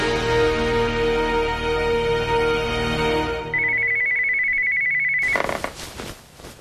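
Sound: telephone ringing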